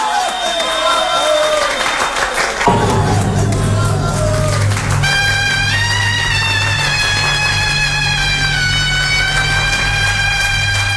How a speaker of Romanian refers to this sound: Vă mulțumesc pentru aplauze, dragii mei spectatori!